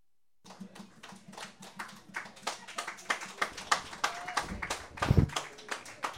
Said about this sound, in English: It's all right, you already clapped for us.